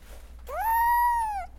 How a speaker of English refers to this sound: A black kitten the size of my hand is squeaking for another bottle.